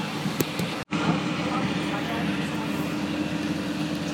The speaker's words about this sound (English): Okay, so I'm on the train.